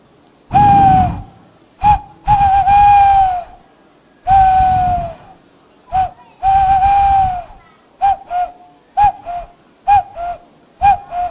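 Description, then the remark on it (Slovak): Bird calls are whistled on an empty, ordinary Slovak snail shell found in the forest, loud: a few long, hooting notes followed by a quick run of short, chirpy toots, with no talking. “Viem si ju chytiť a viem nejaké zvuky vtákov na tom imitovať.”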